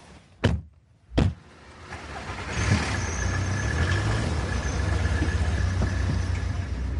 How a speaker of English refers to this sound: So we're on the A505 near Duxford, and Dave's driving his car.